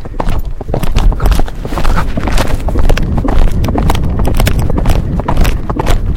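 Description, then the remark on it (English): Steady, rhythmic hoofbeats of a ridden horse cantering on sand, continuous, with a muffled rumbling texture and no voices. “Just canter on the sand here.”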